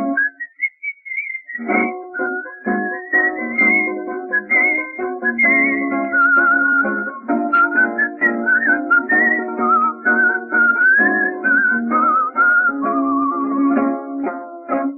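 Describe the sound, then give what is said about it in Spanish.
Someone whistles a flowing, melodic tune for the whole stretch, the clear whistle riding above a steady, sustained instrumental accompaniment, with no talking. “y un reo meditabundo va silbando una canción.”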